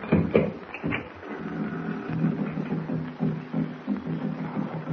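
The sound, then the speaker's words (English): Distant Narwan tribal tom-tom drums beat in a steady, low, throbbing rhythm, a continuous run of muffled thumps with no voices over them. “I hear some drums off in the distance. Narwan tom-tom. That's what they are.”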